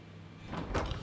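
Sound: door opening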